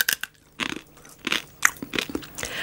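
Dry, brittle crunching of a dried scorpion leg being chewed: a quick run of sharp, crackly bites with short pauses between them, fairly loud, with no talking.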